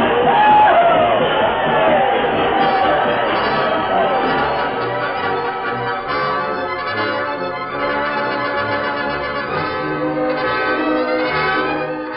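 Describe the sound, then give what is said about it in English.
A crowd of many voices shouting and yelling at once as they scatter for cover while the Lone Ranger's guns and the Dunbar gang's gunmen fire, loud and steady for the whole stretch, with a few voices rising above the general din. “Once again, the smoking guns of the Lone Ranger went into action as the crowd scattered for cover as the gun slicks of the Dunbar gang closed in for the kill.”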